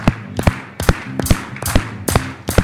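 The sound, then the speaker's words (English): A crowd claps along to a song in unison on every beat, sharp crisp bursts landing at a steady, brisk tempo over quiet music with a low sustained tone. “This is an easy song to clap on, okay?”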